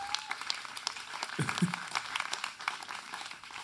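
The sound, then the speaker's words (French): An audience applauds a writer's 50 years of published work: a dense crackle of many hands clapping at once that holds at an even, moderate level throughout, with a brief low murmur partway through. “On peut applaudir ça, hein?”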